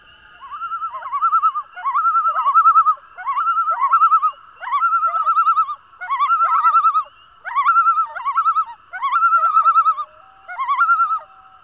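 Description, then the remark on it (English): A common loon gives a loud, ringing yodel: about nine rising, warbling phrases repeated in a steady rhythm, clear with nothing else around. “If you guessed a common loon, you're right.”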